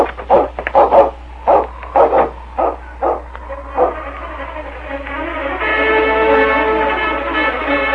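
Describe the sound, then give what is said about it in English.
King, Constable Hammond's Malamute dog, barks in a rapid, loud series of sharp yaps for several seconds, then breaks into a long, steady, drawn-out howl. No voices are present. “The Malamute tilted his sensitive nose in the air.”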